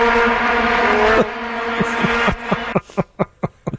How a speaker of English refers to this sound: I wanted to put in some vuvuzela sound. Oh, into the show. Sounds like a swarm of bees.